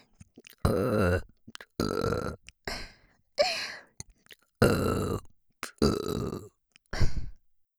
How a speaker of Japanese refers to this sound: 連続ゲップの方が好きなんですね。